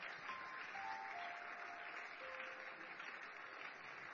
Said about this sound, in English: Please keep clapping. They are coming. Jesus is calling.